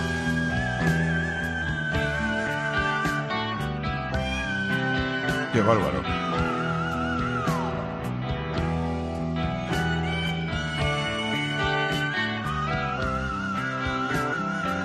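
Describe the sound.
A soprano sings extremely high, thin whistle-register notes with vibrato and sliding glides over a dense orchestral accompaniment, the piercing tone almost instrument-like; a brief spoken exclamation is heard over the music.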